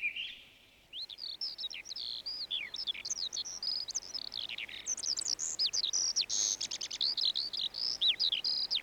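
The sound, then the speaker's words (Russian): A thrush, just returned from southern countries, sings its first song of the season, a steady, still timid run of bright, varied whistled phrases, clear and continuing without pause after a brief quiet start, with no voices present. “Свою первую песню поет дрозд. Слышите? Пока еще очень робко.”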